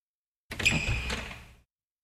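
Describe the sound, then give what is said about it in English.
A door creaks open in one drawn-out motion, a thin squeak riding over a low wooden rumble for about a second before fading out. Fairly loud, with no voices. “The door swung open slowly.”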